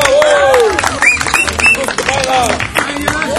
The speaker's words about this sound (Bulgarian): Движение в кръг и аплодисменти за този участник.